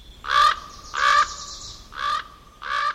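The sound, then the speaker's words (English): A raven gives four harsh, hoarse caws, each a short rasping burst with uneven gaps between them, loud and alone with no other sounds. “Raven, in Northwest Coast native mythology, is the equivalent of coyote in the Southwest, a trickster, an agent of mischief and games.”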